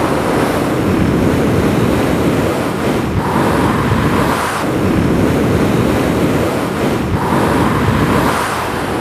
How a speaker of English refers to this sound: Yes, the wind whistles across the plain, but apart from that, the lake lies silent most of the time.